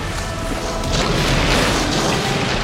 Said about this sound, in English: Burning rocks shower down harmlessly onto the shimmering dome, which now shields Atlantis from the exploding volcano.